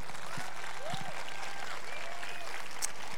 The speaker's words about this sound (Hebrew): אני רוצה כפיים לנשי העם הזה.